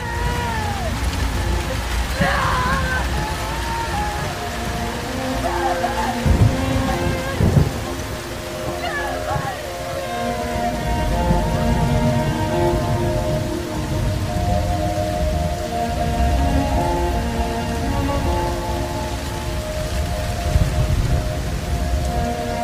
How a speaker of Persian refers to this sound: صدرا زیر بارون میره و روی زمین میفته.